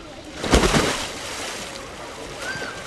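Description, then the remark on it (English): Water splashes and sloshes as someone swims in a pool, with one louder burst of splashing near the start followed by softer, continuous lapping and churning. “I decided to go for a swim.”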